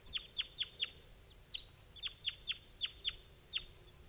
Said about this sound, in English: Meanwhile, some other bird is flying over.